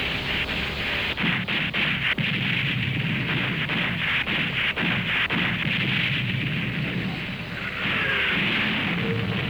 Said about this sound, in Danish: Klokken 15.48, eller lidt i 4, er man på den rette afstand. Og Lützow åbner ild.